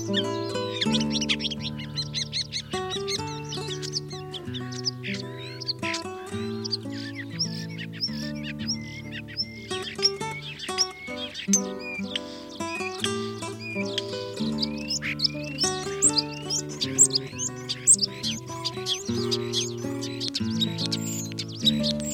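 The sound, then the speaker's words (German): A common starling sings continuously, a busy stream of squeaky chirps, clicks and whistles, over a steady, tonal music-like background layer for the whole stretch. “Das war der Star.”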